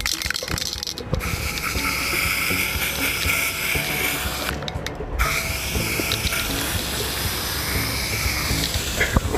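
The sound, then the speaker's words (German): A nearly empty yellow aerosol spray can hisses in long, steady bursts as the number 38 is sprayed onto a street in Butzbach, cutting out briefly twice before resuming, with a slightly sputtering, uneven edge and no one talking. “Dann würde ich sagen, sprühen wir mal die 38.”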